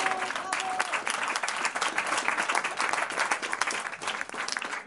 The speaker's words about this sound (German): Habe ich keinen Applaus? Ja, sicher.